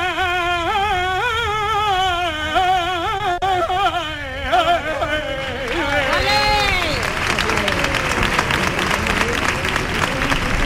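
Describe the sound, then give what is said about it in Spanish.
A solo voice sings a wavering, ornamented saeta line, then a crowd breaks into loud, sustained applause that swells and overtakes the final sung notes and continues to the end. “La saeta que ha arrancado los aplausos.”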